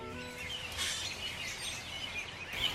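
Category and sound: bird, flock of robins calling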